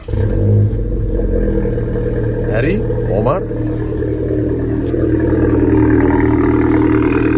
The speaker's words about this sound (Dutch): En ik laat je nu even horen wat het verschil is met cold start, klep open en klep dicht. Let op, komt ie. Dus, gewoon de auto starten. Doen we natuurlijk open. Komt ie.